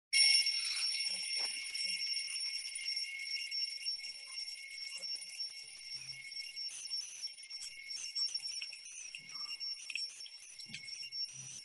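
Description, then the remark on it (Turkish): An alarm clock on a study desk rings nonstop, a loud, shrill, rapid metallic bell rattle that holds steady for about twelve seconds with no voices. “Çalar saat biraz önce duyduğunuz çalar saat masadan geliyor.”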